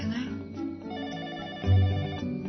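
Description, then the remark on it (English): A telephone rings at 5 o'clock in the morning on Wisteria Lane, a bright, steady electronic tone that pulses slightly and fills the whole moment, fairly loud, swelling briefly near the end. “It was 5 o'clock in the morning on Wisteria Lane when the phone calls started. Of course, each of them knew something was wrong from that first ring.”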